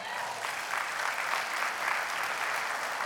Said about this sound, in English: That was about 35 golf claps. I'll take it, though.